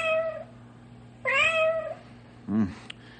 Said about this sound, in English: I'd say the cat is right here in between the wall. All agreed? Sounds that way.